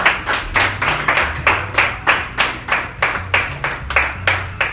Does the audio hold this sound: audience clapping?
yes